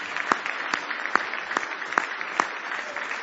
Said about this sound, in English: Give the Lord a big hand clap of praise tonight if you love Him.